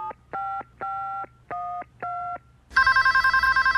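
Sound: telephone number being dialed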